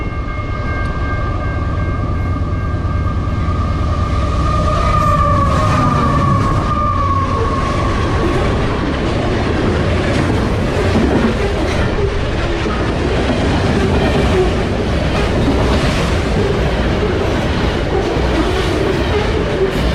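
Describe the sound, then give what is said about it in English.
A train rumbles past, its horn sounding briefly at the start before a loud, continuous roar and rattling clatter of cars on the tracks fills the rest. “Poor thing, I probably got struck by the last train.”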